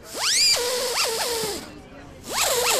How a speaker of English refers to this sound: He points to a table where a 3D printer is working to build a tiny anvil and hammer. It's a desktop filament extrusion. It's a kind of 3D printing, additive manufacturing.